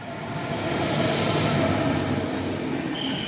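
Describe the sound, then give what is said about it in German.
An Intercity train bound for Amsterdam rolls into a station at platform 12, shortly before 10 o'clock, with a steady, loud rumble of wheels on track, and a thin high brake squeal rises near the end. No voices. “Der Intercity nach Amsterdam fährt auf Gleis 12 ein.”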